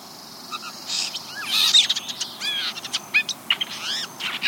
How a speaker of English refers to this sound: Imagine for a moment the familiar cobalt blue jay with black crested head sitting upright. Quietly, the bird extends its head slightly forward, slowly turns it from side to side, and begins to softly sing.